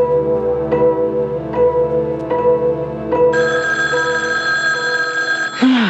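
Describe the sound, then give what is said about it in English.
A telephone rings loudly at night, with a steady run of repeated bell rings that turns into a brighter, continuous trill before cutting off. No one speaks. “Let me answer it. Just hand over the phone, huh?”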